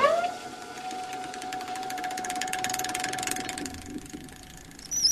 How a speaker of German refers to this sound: Wir haben hier eine Transportpumpe. Das Erdöl aus dem Erdölfeld Wietze, aus diesem Bereich, wurde von hier aus zum Bahnhof gepumpt, weil dort die großen Tankanlagen waren.